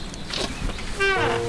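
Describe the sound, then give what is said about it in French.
Outside a house on land with forest, where there are many birds, a bird gives one loud, harmonic call that glides slightly downward and holds for about half a second, after a stretch of soft, faint background sound. “Voilà, tu reconnais quand on est chez moi au son des oiseaux. Il y en a plein ici, ils sont heureux.”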